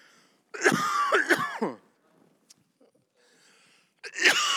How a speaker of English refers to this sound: You'll have to forgive me. I may cough.